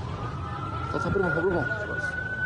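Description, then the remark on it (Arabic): Ambulance sirens in Tel Aviv after a shooting attack on a train, rushing to carry the dead and wounded: a steady, slowly rising siren wails throughout, fairly loud over a busy background, with muffled voices briefly audible in the middle. “وفي ما ضج المكان بأصوات سيارات الإسعاف التي هرعت لنقل القتلى والجرحى مع إعلان الإسعاف الصهيوني حالة الطوارئ بسبب عددهم الكبير”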